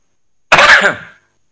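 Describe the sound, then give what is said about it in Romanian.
A single throaty cough bursts out abruptly and trails off with a raspy, throat-clearing quality, with silence on either side and no talking. “Și nu zis asta că am impresia că și din cauza ei tușesc.”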